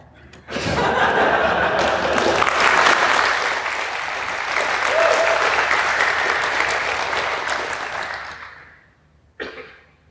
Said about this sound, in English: Well, then I think on that lovely note, let's have another round of applause for our speaker.